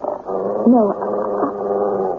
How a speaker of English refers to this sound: the dog. We simply can't expect him to stay quiet like this indefinitely.